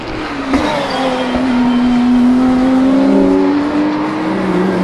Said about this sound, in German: Achtung, Autos!